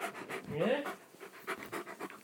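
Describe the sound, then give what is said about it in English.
A dog licks its lips, making a run of soft, wet smacking sounds in a quick irregular rhythm, mixed with panting breaths and a brief low vocal tone near the start. “Right in the front, and he's licking his lips, as you can hear.”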